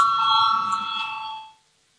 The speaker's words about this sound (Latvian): Lūdzu zvanu balsosim par 100 atbildīgās komisijas priekšlikumu. Lūdzu balsosim.